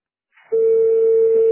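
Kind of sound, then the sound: signal or alarm, telephone ringback tones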